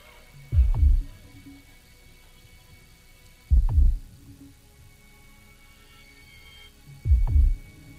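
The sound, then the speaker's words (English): A deep, muffled heartbeat thuds three times, each beat a quick double pulse, spaced slowly and evenly apart over a faint low hum, with no voices. “Feel my heart beat.”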